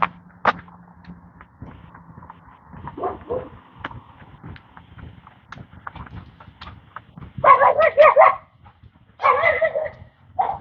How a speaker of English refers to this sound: Lots of dogs this morning. That's what I get for coming out. after 8 o'clock. People got their dogs out in the backyard.